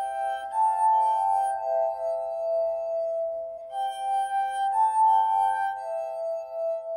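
Glass harp played by an older man rubbing wet fingers over water-tuned goblets mounted on a tray, sustained pure ringing tones layered into single- and multi-part melodies and chords, swelling and fading smoothly with a short pause midway, steady with no voices.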